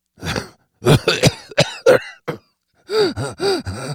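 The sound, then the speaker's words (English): A tall man coughs in a rough fit of several harsh bursts, followed after a brief pause by a few short, strained voiced exhalations like a weak, breathy laugh. “The tall man coughed, then laughed weakly.”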